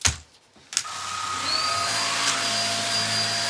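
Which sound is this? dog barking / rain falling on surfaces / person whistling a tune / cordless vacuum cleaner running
cordless vacuum cleaner running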